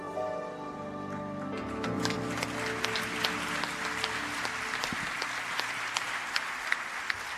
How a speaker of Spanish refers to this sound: Buenas noches y el aplauso para los 80 años de Radio Nacional y para Fernando Peña, que en 2008 hizo La Vereda Tropical, un programa dedicado sobre todo al bolero.